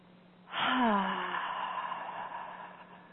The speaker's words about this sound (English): And so with that, together, we'll take a nice deep breath in and exhale everything out with a sigh. So breathing in.